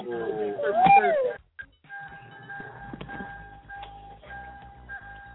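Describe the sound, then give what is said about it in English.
A car's warning bell chimes steadily in a quick, evenly spaced repeating pattern at moderate volume, following a brief high, sliding vocal sound at the start. “That's the bell to the car.”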